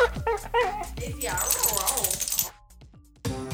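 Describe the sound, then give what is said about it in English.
Daisy Buchanine, the office dog at HRN's 100 Bogart office, yips and whimpers in a quick run of high, whiny sounds, moderately loud, before a brief pause and one last short yelp. “Usually, there are 3 to 6 of us working out of 100 Bogart, plus our chief of morale, Daisy Buchanine, Cat's dog.”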